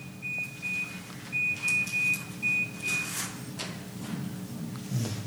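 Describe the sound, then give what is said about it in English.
A buzzer goes off in a rapid series of short, steady high-pitched electronic beeps lasting about three seconds, then stops, leaving a low background rumble. “The buzzer goes off.”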